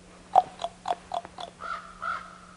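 raven calling

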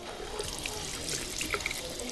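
water running

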